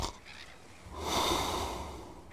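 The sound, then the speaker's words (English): A single loud, rasping snore from a sleeping captain rises and swells for about a second before fading, preceded by soft breathing, with no voices present. “The captain snores loudly.”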